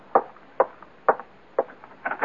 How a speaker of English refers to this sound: And then, late that afternoon, there's a knock on your door.